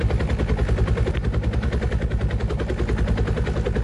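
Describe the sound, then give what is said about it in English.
A helicopter's rotor chops steadily and loudly, a fast, even thudding rhythm with a heavy low rumble that holds constant throughout, with no voices. “There's the chopper.”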